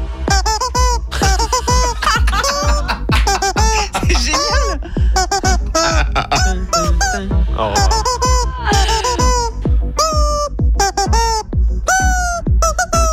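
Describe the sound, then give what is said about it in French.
A loud, continuous melody, a cover of a well-known song, squeezed out of squeaking plastic rubber chickens, large and small, each note a nasal, honking squeal in quick rhythmic succession, backed by a steady low beat, with no talking. “il a repris le titre qu'on vient d'entendre de …. Et il le fait avec des poulets en plastique, justement.”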